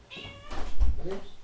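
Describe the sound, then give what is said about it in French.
A cat meows, a drawn-out cry followed by a second shorter meow, with a dull low thump in between. “On va mettre ce chat dehors.”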